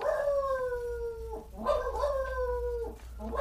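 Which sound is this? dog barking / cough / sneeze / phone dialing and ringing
dog barking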